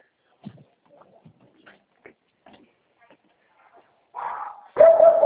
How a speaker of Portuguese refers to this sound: Lá dentro, esse cachorro latindo, não estou escutando.